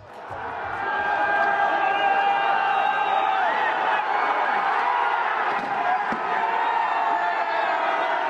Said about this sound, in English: The sound in Kiev there, protesters smashing a statue of the Bolshevik leader Vladimir Lenin, a symbol of the Soviet dominance of Ukraine during the Cold War.